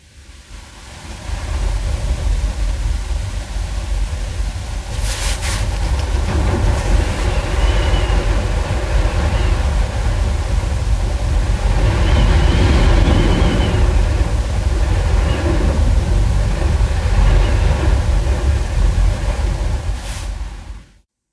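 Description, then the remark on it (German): Strong wind roars steadily outside, recorded from indoors in a room, with a dense low rumble and rising, falling gusts throughout. Occasional brief rattles or knocks cut through, and no one speaks. “Und ich habe versucht, aus unserem Zimmer diesen Wind aufzunehmen.”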